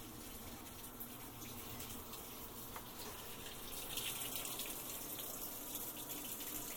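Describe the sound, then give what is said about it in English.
Steady rushing water flows continuously, a broad hissing gush that swells slightly louder partway through, as a paused washing machine that has stopped filling drains its rinse water. No voices. “It's draining. I had the machine on pause, but essentially it stopped filling, and this is the rinse water going out.”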